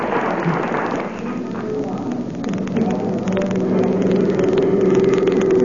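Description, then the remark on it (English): A car engine runs steadily as the vehicle drives out to the airport, its hum rising slightly in pitch partway through, with a constant rushing road noise underneath and nothing else standing out. “There's Doc Gamble waiting for us in his car. We got to get out to the airport”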